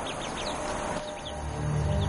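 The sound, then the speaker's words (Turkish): Young birds give a series of short, high-pitched chirps in quick succession, fairly faint, while mobbing and challenging a snake, over a steady low background rumble with no one speaking. “Bu arada genç kuşlar yılana meydan okuyarak güç ve cesaretlerini kanıtlar ve grup içinde saygınlık kazanmaya çalışırlar.”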